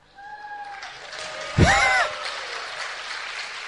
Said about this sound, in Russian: В основном хлопает женская половина, но так как их больше, то аплодисменты внушительные.